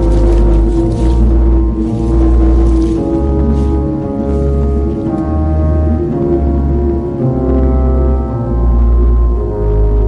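A loud musical interlude with sustained tonal harmonies over a steady, pulsing low bass rhythm, playing continuously with no voices.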